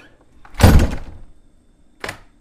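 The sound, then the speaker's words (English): An apartment door is slammed shut with a loud, heavy thud and a brief lingering rumble, followed about a second and a half later by a lighter knock as it settles. “Let me give this apartment door another good slam.”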